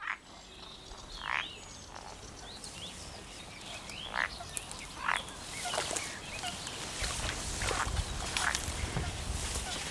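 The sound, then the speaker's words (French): Frogs call from a pond at Vitré-en-Artois, between Arras and Douai, in Hauts-de-France, in repeated short bursts, some croaks loud, others fainter, over a steady outdoor hiss with low rumbling noise underneath. “Je vais donc vous faire écouter quelques sons que j'ai pu enregistrer de grenouilles des Hauts-de-France.”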